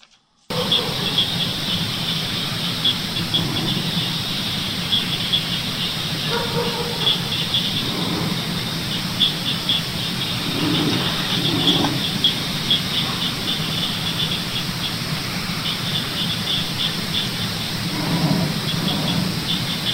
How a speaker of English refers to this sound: But you'll hear dogs barking, crickets and frogs. But in the background, you hear that low, kind of a growling sound.